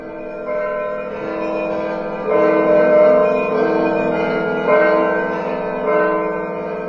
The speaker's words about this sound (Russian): Я действительно замечала, что даже люди, которые далеки от религии, когда они слышат колокольный звон, они вот невольно останавливаются.